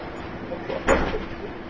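A door is pushed shut with a single muffled thud partway through, set against a steady room hum and faint background murmur; the knock is moderate in loudness.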